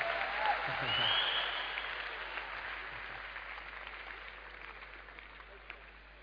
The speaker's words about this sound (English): How people will clap for me, you'll be surprised.